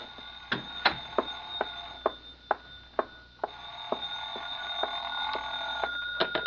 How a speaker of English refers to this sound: Oh, excuse me, the phone.